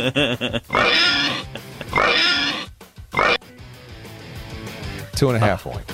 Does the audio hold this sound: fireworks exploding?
no